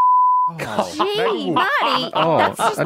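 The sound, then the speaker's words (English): A steady, high censor bleep tone lasts about half a second, then cuts straight into lively speech mixed with chuckling. “Maybe just beep a name.”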